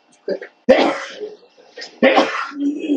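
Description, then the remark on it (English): Two abrupt, explosive sneezes about a second apart during a church service, loud, each trailing off into breathy noise, with a brief murmur of voice before the first. “That's weird. Bless”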